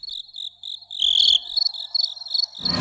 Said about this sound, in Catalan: Mira, si algú ha anat a Molokai i ha sentit els grills cantar diferent, que sàpiga la història que hi ha al darrere.